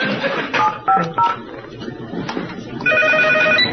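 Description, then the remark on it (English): A few quick electronic telephone beeps, like dialing, followed by a steady warbling phone ring near the end, all over a faint, noisy background. “Did you just call here, bitch?”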